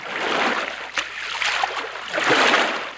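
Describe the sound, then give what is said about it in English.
Water sloshes and splashes around a small boat in surging waves, with a brief knock partway through. No one speaks, and the sound stays fairly loud throughout. “Do you go by boat?”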